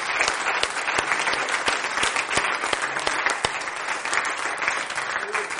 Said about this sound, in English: Can you say that tonight? Hallelujah. Let's give the Lord a hand clap. Amen.